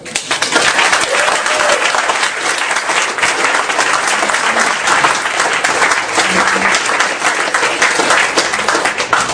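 A large audience applauds steadily, a dense wash of many hands clapping at once that stays loud and even for about nine seconds, with no voices standing out.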